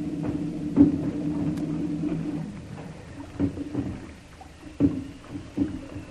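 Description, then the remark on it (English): A small rowboat carrying men comes alongside a larger ship and knocks against its hull, with several hollow wooden thuds at uneven intervals over a steady low watery rumble, with no talking. “But we'll pick him up and then see what happens. All right, you men. Get ready to come aboard.”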